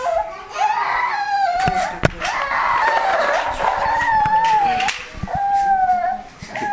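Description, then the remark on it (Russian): A child cries loudly, a continuous wavering wail with rising and falling pitch that barely pauses, with a few sharp knocks underneath. “Ребенок это реагировал.”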